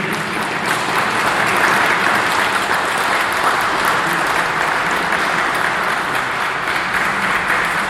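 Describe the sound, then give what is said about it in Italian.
Sustained audience applause dedicated to the musicians: a dense, steady wash of many hands clapping at an even, loud level for several seconds, with no voices rising above it. “E poi, ovviamente, alla fine della mia lettura lasceremo il vero finale ai bravissimi musicisti, a cui dedicherei un altro applauso.”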